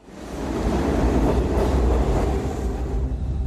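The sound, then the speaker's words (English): A subway train car with only about three people aboard rumbles steadily along the rails, a loud, continuous low roar with a faint rhythmic clatter underneath, with no voices. “It starts with a subway car here with only about 3 people on it.”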